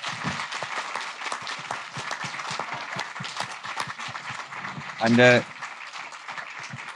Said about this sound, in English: All right. Thanks very much. Round of applause.